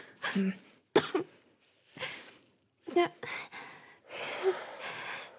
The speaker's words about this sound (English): Good girl. Oh, there we go. Cough it out.